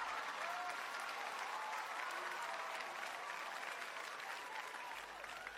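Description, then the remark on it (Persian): Steady, sustained applause from a crowd, a dense wash of many hands clapping at an even level for several seconds, with a few faint whistles or cheers mixed in. “یک چکچک و یک تشویق به افتخاری بزرگ برن.”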